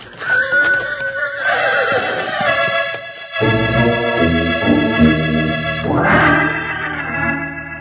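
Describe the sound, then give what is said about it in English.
A horse neighs loudly, a long, shrill whinny that rises and wavers, then breaks into a second, lower whinnying call toward the end, with no talking. “That horse will kill me.”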